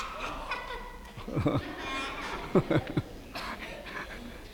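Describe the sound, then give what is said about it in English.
A person imitates a goat's bleat, voicing the middle billy goat Gruff crossing the wooden bridge while telling the Three Billy Goats Gruff story, with a few short, wavering, nasal vocal bursts, moderately loud, separated by brief pauses. “Oh, it's me, middle billy goat Gruff.”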